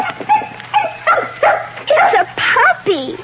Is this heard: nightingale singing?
no